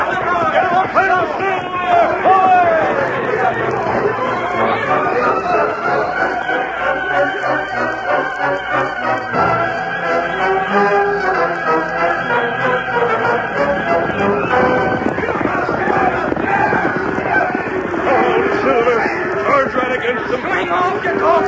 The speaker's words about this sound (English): Them cattle are heading straight down the canyon, straight for Fletcher's place.